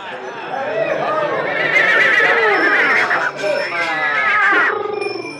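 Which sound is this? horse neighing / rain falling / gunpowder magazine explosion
horse neighing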